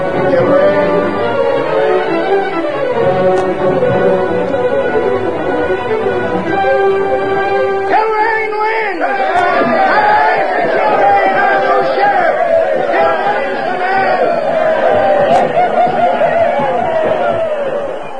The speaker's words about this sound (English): With the announcement of the winner, the crowd that filled the street went wild.